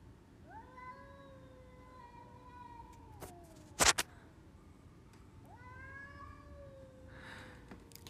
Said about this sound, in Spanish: Hoy, en esta noche fría bogotana, escuchamos los maullidos de los gatos. Si ustedes escuchan y se dan cuenta, estos maullidos parecen de niños.